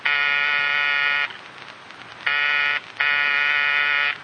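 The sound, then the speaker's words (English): A loud, harsh electric front door buzzer, rung by visitors, sounds three times: one long press of over a second, a pause, then two more presses in quick succession, the last held for about a second. “Oh, go on. Buzz the buzzer.”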